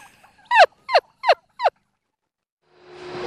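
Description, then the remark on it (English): Heritage turkeys on a farm gobble while mating in a quick series of four loud, rattling bursts, followed by silence and then a soft rush of background noise. “the heritage birds know how to interact with their environment, and they breed naturally, something evident on the farm that day”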